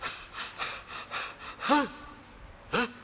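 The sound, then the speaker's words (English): A voice breathes heavily in a steady series of rough, audible exhalations, then lets out two sharp gasping inhalations with a strained, voiced edge, fairly loud, with no talk. “Saying like this and breathing heavily.”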